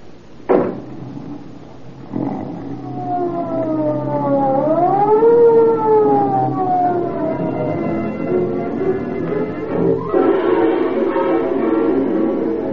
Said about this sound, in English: Although the police car starts its journey with sirens screaming, it enters the neighborhood where Edna lives in silence.